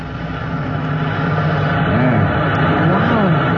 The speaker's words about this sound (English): I've opened her up now. That hiss of air is the warning. Any second, the water will come whamming through this nozzle.